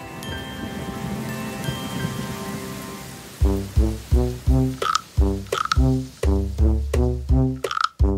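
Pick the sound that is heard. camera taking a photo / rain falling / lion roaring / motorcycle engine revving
rain falling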